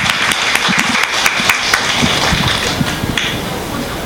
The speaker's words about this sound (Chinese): 我们后面一位姐妹站起来，来站起来介绍一下自己我们来用掌声来欢迎她，感谢主。